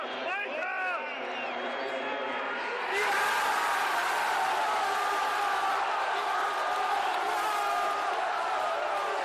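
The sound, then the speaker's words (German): A dense stadium crowd roars and cheers at a Bayern Munich football match, swelling suddenly louder after a few seconds, with a single fan in the third row of the Bayern end screaming shrilly and off-key above the din. “Der da so schief geschrien hat, ja, das bin ich.”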